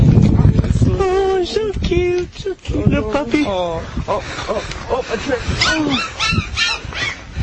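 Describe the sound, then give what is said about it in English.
A puppy whimpers and yips, a steady string of high, wavering whines and short sharp yelps running for several seconds over a low background rumble. “Here's the puppy clip. Cute little puppy, huh?”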